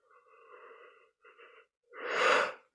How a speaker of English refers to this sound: And just as a note, sometimes I yawn a lot during sessions. It's not because I'm tired. Yawning is a form of energetic release.